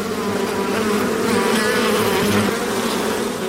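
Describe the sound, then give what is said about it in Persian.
A dense, steady buzz of many honey bees at a bee farm on the outskirts of Herat, Afghanistan, fills the air continuously, loud, like standing beside busy hives with no voices present. “در حاشیه شهر هرات سه فارم زنبور عسل دارد که به تنهایی آنها را مدیریت میکند.”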